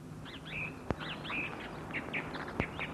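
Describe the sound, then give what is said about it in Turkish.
Birds chirp and warble in a steady, overlapping chorus of short rising and falling calls, with a couple of sharp clicks and a low hum underneath. “Kurtlar ve kuşlar sevinç çığlıkları atmaya başladılar.”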